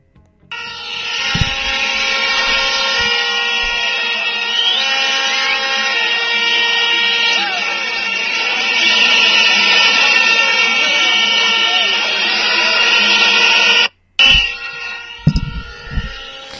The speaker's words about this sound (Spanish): Això que acaben d'escoltar vostès és... En Madrid, és en la Puerta d'Alcalá i és el crit de vora 500 llevadors de tota Espanya, entre ells 800 valencians, que reclamen a les portes, o que van, perquè ara estan concentrats en la Puerta d'Alcalá